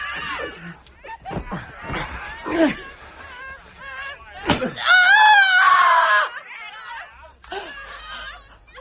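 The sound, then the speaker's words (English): A woman cries out and gasps, then lets out a loud, drawn-out scream after a sharp whip-like crack as she is whipped, with further pained sobs and cries. “You made me scream.”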